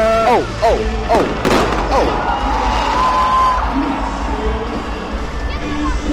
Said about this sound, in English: They're not shooting at us, so those are fireworks.